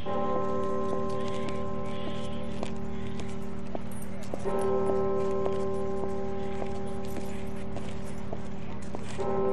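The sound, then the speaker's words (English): Church bells toll five o'clock from the Gothic steeple of the chapel at Duke University in Durham, North Carolina, slowly, each deep ringing strike hanging and fading for several seconds before the next, with faint clicking and clopping sounds scattered underneath. “The bells toll 5 o'clock from the soaring Gothic steeple.”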